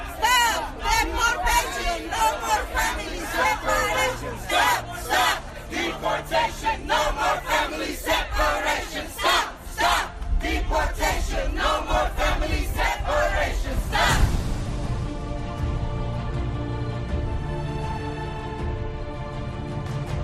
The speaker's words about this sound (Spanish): Durante el periplo de esta semana les ha dado tiempo a repasar cada uno de los puntos calientes de esta situación y en todos esos lugares se ha alzado el mismo grito. Los inmigrantes no somos criminales, somos trabajadores internacionales.